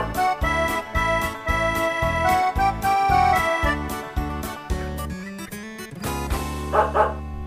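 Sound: imitated dog barking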